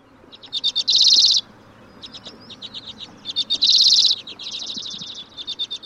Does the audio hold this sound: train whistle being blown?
no